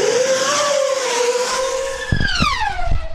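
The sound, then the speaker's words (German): A small black high-speed drone with carbon-fibre propellers, the record-setting Blackbird that reached 700 km/h in test flights, whines loudly overhead, its shrill buzzing pitch sweeping down as it zooms past, followed by a few low gusty thumps. “Bei Testflügen hat eine Hochgeschwindigkeitsdrohne mit dem Namen Blackbird einen Rekord aufgestellt.”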